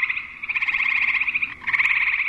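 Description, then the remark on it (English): A frog gives a rapid, buzzing trill, loud, sustained for about a second and a half, then a brief break before the pulsing call resumes. No voices are present. “And sometimes people will call and say, heard this thing. It doesn't sound like a frog.”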